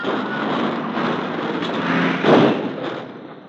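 A car driven by two men skids on a snow-covered road and overturns: a steady, rough rushing noise builds, a heavier crashing burst hits just past the middle, and the racket then tapers off. No voices are heard.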